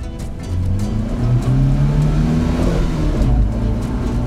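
A car engine revs up and accelerates, its pitch climbing in a steady, rising drone that holds loud for several seconds with no voices.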